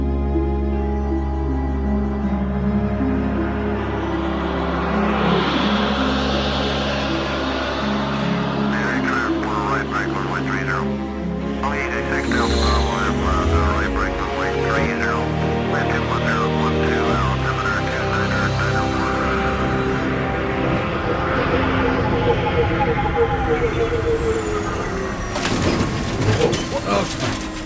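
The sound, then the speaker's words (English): A spacecraft landing: a loud, steady low rumble with whirring, droning mechanical tones and scattered clanks, building into a burst of harsher noise near the end before touchdown. “We're down safely, and that's what counts.”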